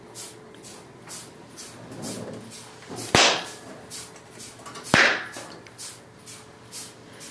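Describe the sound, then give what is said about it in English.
Two loud, sharp slaps to a gagged man's genitals crack out about two seconds apart, each a quick smack against a quiet background with faint, steady rustling noise. “A sharp slap to your balls.”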